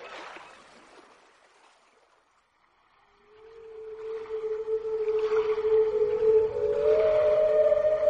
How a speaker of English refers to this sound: This is the whale who came one night when the tide was high and the stars were bright. A humpback whale, immensely long, who sang to the snail a wonderful song of shimmering ice and coral caves and shooting stars and enormous waves.